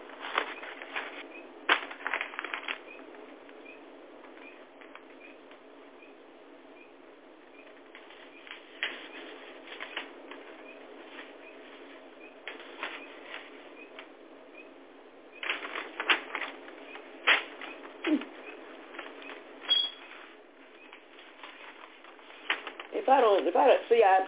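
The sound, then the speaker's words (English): Pages of a paper being torn up and folded over: crinkly rustles and sharp crackling rips come in irregular bursts with short pauses between, growing busier and louder toward the end, with no voice heard. “I guess definitely about tearing up this paper, but that's the reason why I tear it up, because I like to put every page, whatever comes right after the first page, in a continuation, I like to fold it over and have it right up, right up under the”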